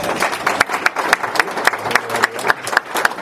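An audience applauds the band's piper with a dense, steady patter of many hands clapping, some sharper claps standing out at a fairly regular pace, sustained at a moderate level for a few seconds without talk.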